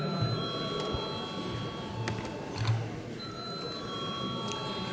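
signal or alarm, parliament chamber bell ringing

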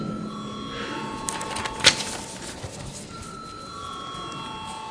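signal or alarm, parliament chamber bell

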